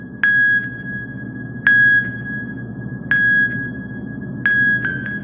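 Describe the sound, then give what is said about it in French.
Dozens of telephones hung from the ceiling by their cords, used as an instrument, chime together: four bright ringing tones struck at an even pace, each lingering briefly over a low, steady rumble of background noise. No one speaks. “les téléphones font des sons, et comme ça, tous ensemble, ça fait une mélodie”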